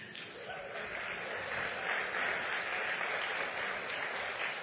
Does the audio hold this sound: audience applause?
yes